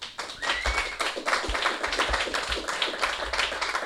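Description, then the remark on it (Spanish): A crowd at a live event in a library applauds steadily, many hands clapping in a dense, fast patter that stays fairly loud and even throughout, with no voices heard over it. “Vamos a darle un aplauso porque el chaval se lo ha currado.”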